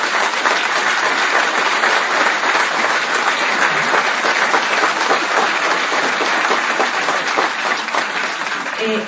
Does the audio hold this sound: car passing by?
no